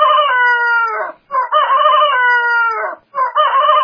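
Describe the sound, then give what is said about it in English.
A rooster crows loudly, its long strained cock-a-doodle-doo breaking into a few drawn-out bursts with brief gaps, and no one speaking. “And Peter remembered the word of Jesus, which before the cock crows, thou shalt deny me thrice.”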